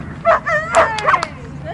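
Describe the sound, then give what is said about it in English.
Teddy, a gray cattle dog, gives a quick series of sharp, high-pitched yipping barks during an agility run at Jump City Agility, about three excited bursts in under two seconds, loud over a low background rumble. “Tonight she's with Teddy, an adorable gray cattle dog.”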